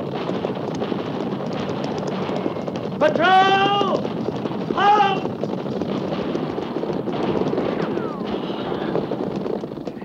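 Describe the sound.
A steady, dense thunder of galloping horses ridden by a captain's troop near the Oregon Trail, heading toward gunfire, runs throughout, with two brief bursts of high shouting or whooping voices cutting through the drumming hooves partway in.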